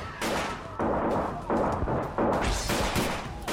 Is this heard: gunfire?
yes